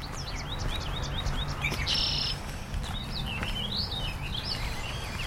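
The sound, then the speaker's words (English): Several birds sing and chirp in the morning at Fresh Pond Reservoir in Cambridge, Massachusetts, in repeated, rising whistled phrases, layered over a steady low background hum, with a brief buzzy trill partway through and no voices. “The hope comes courtesy of the birds”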